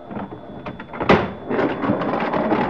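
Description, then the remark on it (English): A heavy freight car door on a stopped train is torn open by men: a sharp, loud clank followed by a sustained grinding, rumbling slide of metal, with no voices. “As they break the seal on the freight car, other men tear open the door of the car ahead.”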